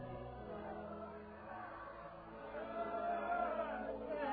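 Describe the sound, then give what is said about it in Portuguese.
A dense murmur of a large crowd, many indistinct voices blending into a steady rumble that swells slightly louder toward the end. “Os ruídos da multidão denunciam que a hora derradeira de André está próxima.”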